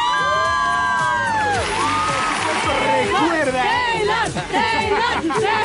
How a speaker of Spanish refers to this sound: Está increíble, así que miren, vamos a echarnos un grito aquí en la cabina para que se sienta la emoción del Foro Sol.